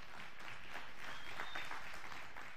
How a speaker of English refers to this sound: Thank you. Give the worship team a clap, will you?